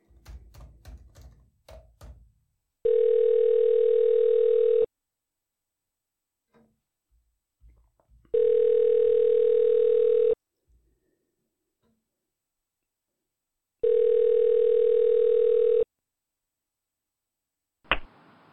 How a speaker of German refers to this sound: Ich versuche jetzt nochmal, ihn telefonisch zu erreichen. Bitte warten Sie einen Moment. Es könnte einige Sekunden dauern, bitte.